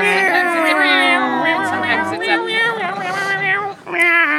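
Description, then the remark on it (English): People mimic cats with loud, drawn-out meowing and yowling, doing a cat version of the Doctor Who opening theme, voices overlapping as the pitch wavers up and down for several seconds, with a brief pause just before the end. “We by... make cat noises.”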